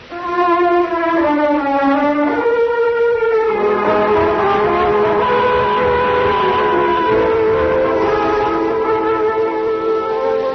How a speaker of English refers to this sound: Through the night, several hours out of New York, a fast train speeds westward.